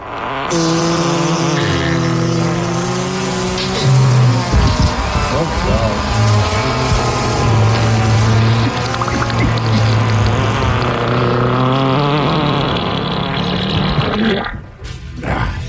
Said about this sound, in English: So can we get a big old fart medley and Coach Ted to help him decide whether to run middle school track or play baseball this spring?